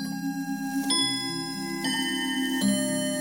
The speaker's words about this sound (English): But eventually, that clock will chime.